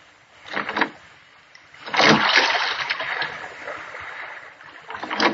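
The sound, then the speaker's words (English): Oars dip and splash as a rowboat is rowed, with three broad watery surges, a short one, a long churning stroke, then another starting. The strokes sound moderately loud, with no voices. “Push off, man. Start rowing. The other boats are piling up behind you.”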